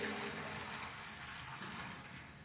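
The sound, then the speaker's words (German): Water from Küsnacht pours steadily into a basin, a continuous soft rushing splash that holds an even level for a couple of seconds with no voices over it. “Dann das Wasser von uns hier in Küsnacht, das als Kraftort gilt für alle Konfessionen, ob reformiert, katholisch, orthodox oder keiner zugehörig.”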